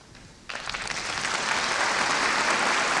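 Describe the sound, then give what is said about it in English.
A large concert audience bursts into enthusiastic applause after a brief quiet moment as pianist Claudio Arrau comes on stage, followed by conductor Gerard Schwartz, before Weber's Konzertstück in F minor; the clapping swells quickly into a dense, sustained roar of hands. “Arrau is now coming on stage, and he is greeted by the very enthusiastic applause of the audience, as you can hear.”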